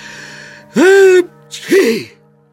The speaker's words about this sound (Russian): Но для обрадовавшихся стрельцов командирский чих послужил прямым приказом, а приказы, как известно, не обсуждают.